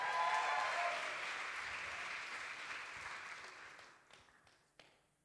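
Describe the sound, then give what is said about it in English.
A crowd applauds and cheers for a woman coming up to be baptised, a dense wash of clapping that is loudest at the start and gradually fades out over about five seconds, ending with a few scattered claps. “Give her a cheer as she comes.”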